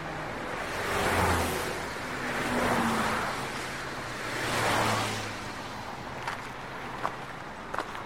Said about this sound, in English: We walked to the edge of the bridge and waited for the cars to pass.